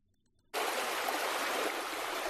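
After a brief moment of silence, flowing water starts abruptly and keeps up a steady, loud rushing sound, like a strong stream or running tap, with no voices.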